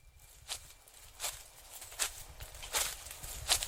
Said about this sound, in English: But then I heard footsteps quietly approaching my window.